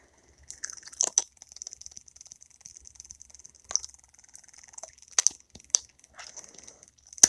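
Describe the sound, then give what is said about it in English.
A vibrating sex toy buzzes quietly with a steady, thin, high-pitched whine, broken by scattered sharp clicks and crackles, with a few louder bursts near the start and end. “That's the noise it makes, so it's pretty quiet. It kind of sounds like cat purring.”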